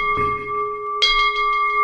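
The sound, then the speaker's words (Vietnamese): A ritual bell is struck twice, about a second apart, each hit blooming into a bright, steady ring that sustains and overlaps, fairly loud with no voices, during a Buddhist funeral rite as the family kneels. “Đấy, thì chúng ta khi bảo quỳ rồi thì chúng ta bắt đầu thỉnh ba tiếng chuông.”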